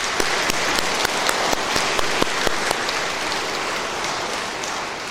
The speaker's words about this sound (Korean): 아, 신부님들 사목 잘 하실 수 있도록 응원의 박수 한번 드리고 싶습니다.